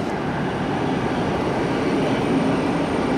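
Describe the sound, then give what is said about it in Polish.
A steady, loud mechanical rumble of a train at a railway station fills the whole stretch, a dense continuous roar with no breaks and no voices. “No, nie wszystkie pociągi mają, no.”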